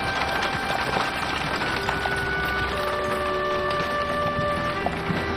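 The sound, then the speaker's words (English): Hooves clop steadily as a horse-drawn wagon rolls in and pulls up to a church, with wheels rumbling and sustained music tones playing underneath at a moderate, even level. “pulls up to the church in a horse-drawn wagon.”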